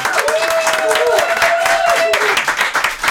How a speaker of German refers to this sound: aber erstmal einen herzlichen Applaus an unseren Gast